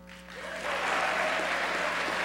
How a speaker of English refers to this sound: And listen to the applause. It sounded like Republicans and Democrats.